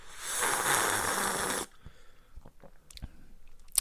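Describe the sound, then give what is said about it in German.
A big, noisy slurping sip of tea, which is not very hot, lasting over a second, followed by soft smacking, swallowing sounds and small clicks of the mouth. No one speaks. “Okay, Moment, ich nehme einen großen Schluck.”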